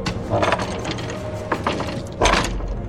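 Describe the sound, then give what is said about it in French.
The heavy door of Zangdar's lair grinds open with loud, clattering ratchet-like clicks and metallic rumbling, rising in bursts with a final surge near the end, no voices present. “J'ouvre la porte de l'antre de Zangdar.”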